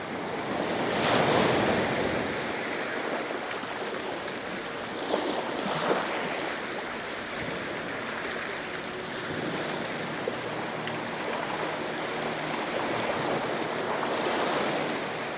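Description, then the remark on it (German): Soft, steady rushing of distant ocean surf, a continuous hiss that swells and recedes gently over the whole stretch, with a faint breath of wind and no voices. “Als deine Finger über den ersten Bogen gleiten, hörst du ein leises Rauschen, wie ein fernes Meer.”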